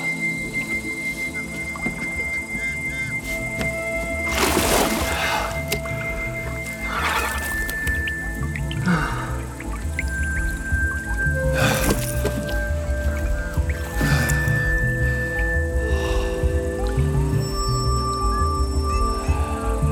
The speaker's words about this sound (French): On va écouter un petit peu de son de ce fleuve, l'Amazone, avec ses oiseaux.